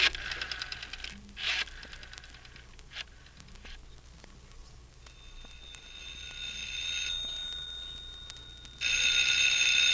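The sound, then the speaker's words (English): A telephone bell rings in a long, sustained, high metallic trill that grows louder and becomes harsh and insistent near the end. No voices are heard. “Mr. Sargent! The telephone's ringing.”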